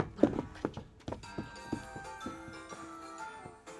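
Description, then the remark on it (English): A series of about eight heavy, rhythmic foot stomps thud at a steady pace, fairly loud, over a bright background of sustained musical tones, stomping along to the children's song "If You're Happy and You Know It". “If you're happy and you know it, stomp your feet.”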